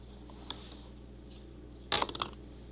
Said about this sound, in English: Look. This is a paper cup. Yeah. Just try rolling it into the paper cup, the marble.